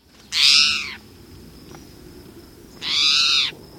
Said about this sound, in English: Don't worry. Bird Note hasn't gone to the cats. This feline-sounding call comes from a common resident bird, the spotted towhee.